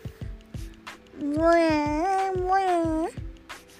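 animal, cat meowing

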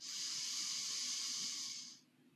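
human body sound, deep inhale

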